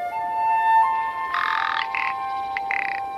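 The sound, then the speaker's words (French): A rock ptarmigan, a pigeon-sized, hen-like bird of high mountains whose plumage turns white in winter, gives a dry, rasping, croak-like rattle in three bursts, the first longest and the last two short, over a steady, faint tonal hum. No one speaks. “Et on pourrait prendre un exemple très symbolique, c'est le Lagopèze alpin.”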